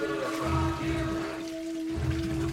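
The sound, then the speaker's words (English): Gallons of water pour steadily and continuously into a slushy machine, a rushing splash layered over a constant low mechanical hum, with no voices. “is pouring gallons of water into a slushy machine and rocking out.”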